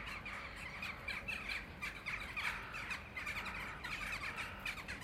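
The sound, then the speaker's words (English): A dense, continuous chorus of rooks from a rookery cawing and squawking together in the morning as they swarm around a McDonald's car park, many harsh overlapping calls forming a loud, chattering wall of sound with no pauses, recorded with Roland CS10EM binaural mics into a Zoom H2N. “This rookery is the one I've spoken about.”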